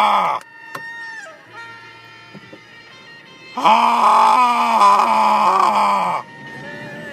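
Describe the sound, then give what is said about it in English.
A man lets out a loud, drawn-out guttural scream lasting a couple of seconds, voicing a rapper-style ad-lib, after a brief sharp shout and quieter stretches at the start. “That is the guttural scream of a man who must be going to E3 tomorrow.”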